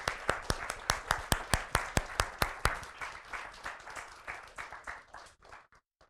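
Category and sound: crowd, audience applauding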